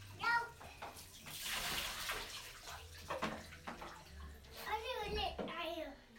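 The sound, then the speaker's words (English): Water sloshes and splashes in a bathtub in broad noisy bursts as a child splashes water at his brother's head, while a child's high voice chatters and squeals over the top. “If you splash your brother's head, I'm going to splash your head with a big splash.”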